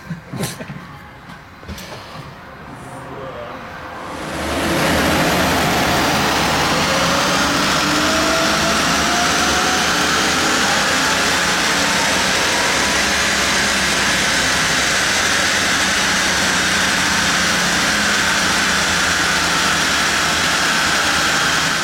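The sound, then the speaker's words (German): After a few seconds of quieter clatter, a turbocharged car engine, fitted with a new turbo and a Pipercross air filter, bursts into a loud, sustained roar on a dynamometer, its pitch climbing steadily through a long full-throttle pull; measured at 362 PS and 704 Nm. “Turbo ist fertig. 362 PS, 704 Newtonmeter.”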